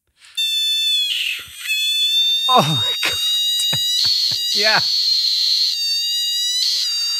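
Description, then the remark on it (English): A giant screaming frog lets out a loud, piercing scream that holds steady and shrill for several seconds, while people briefly exclaim and react over it midway. “Yeah, I mean, let me play you a clip of a giant screaming frog.”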